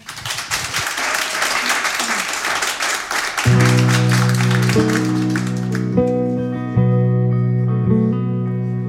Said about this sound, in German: Und meine Damen und Herren, ich würde mal sagen, spendieren wir ihr doch einen weiteren Applaus und freuen uns auf das zweite Live-Set heute Abend bei uns.